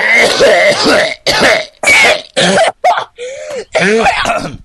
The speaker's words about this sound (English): Let me have a good old cough. Hang on, let me bring this up.